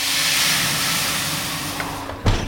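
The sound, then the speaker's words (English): A loud, steady hiss of steam bursts up as water is added to a hot oven baking dough to make a crisp, dry crust, a broad rushing noise that holds for about two seconds before a brief thump and a fading sizzle. “It's adding water to the hot oven.”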